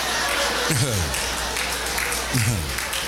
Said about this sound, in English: That's what I'm talking about right there. I got one hand clap.